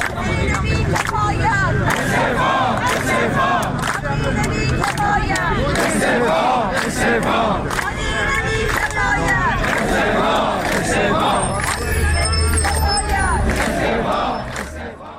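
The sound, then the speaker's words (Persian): Social security retirees gathered in front of the Plan and Budget Organization in Tehran, Iran, chant slogans in loud, rhythmic unison, many voices shouting together in repeated phrases over a steady roar of noise that holds strong throughout before easing slightly at the end. “شعار تجمع کنندگان در تهران را می‌شنویم.”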